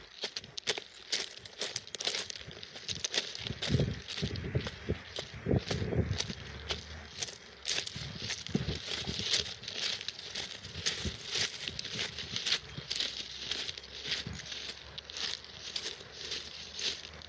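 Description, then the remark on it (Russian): Footsteps of a person walking along railway tracks crunch over loose stones in a steady, slightly uneven walking rhythm, each step a gritty scrape, with a few heavier thuds partway through and no talking. “А слушайте-ка вы камни.”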